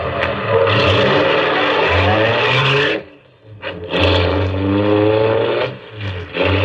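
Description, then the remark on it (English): A car engine revs loudly and pulls away, its droning pitch rising as it accelerates, dipping briefly midway before surging again. No one speaks. “I heaved a sigh of relief as we pulled away.”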